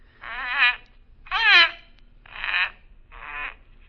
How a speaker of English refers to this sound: The bird was moving about in the cage now, nodding his head in a very peculiar manner, uttering the most extraordinary sounds. I began to realize that he was imitating the thing he saw standing by his cage.